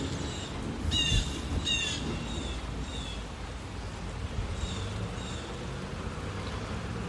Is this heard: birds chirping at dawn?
yes